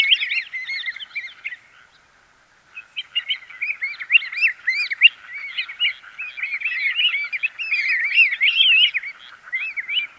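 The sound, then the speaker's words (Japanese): Pacific golden plover calls, migratory birds at the rice paddies in Matsudo along the Edogawa River, Japan; a dense chorus of clear, whistled chirps from several birds overlapping almost continuously, with a brief lull early on, with no talking. “胸黒は渡り鳥です。”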